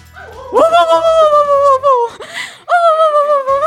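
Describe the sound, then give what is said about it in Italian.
A human voice imitates how a normal fox howls, with a rising, long drawn-out wail, a brief breathy break, then a second sustained howl. It is fairly loud, with no other sounds. “Allora, se una volpe normale ulula così, una volpe polacca, che evidentemente parla un'altra lingua, come ulula?”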